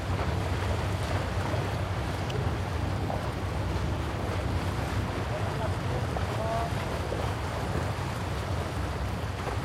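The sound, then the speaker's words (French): A steady low engine rumble of a large vessel drones continuously beneath wind and water wash, with faint murmuring voices in the background, as a heavy cargo barge, 39 by 5 metres and loaded with 2829 tonnes, moves past on a river. “Chargé 2829 tonnes. C'est là l'arrière.”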